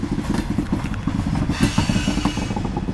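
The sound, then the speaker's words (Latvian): A freight train rolls along railway tracks on Krievu Island near Bolderāja, a steady heavy rumble with rhythmic clanking pulses of wheels and cars, fairly loud and continuous, with no voices. “Tur cauri plašai teritorijai ved dzelzceļa sliedes.”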